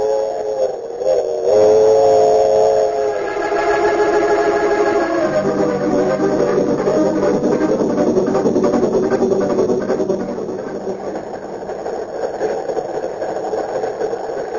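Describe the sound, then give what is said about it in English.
A passenger train slows into Marsden City station: a steady mechanical rumble with rattling, shifting tonal whines early on, then a lower droning hum and clattering vibration as it eases to a stop. “Oh, look, we're coming into Marsden City. As soon as we get rolling again”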